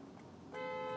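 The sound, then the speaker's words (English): A car horn blares in one sustained, fairly loud honk over a low rumble of traffic noise, cutting in halfway through and holding steady to the end, honking at a woman forcing her way out into traffic. “They were honking at her, I believe.”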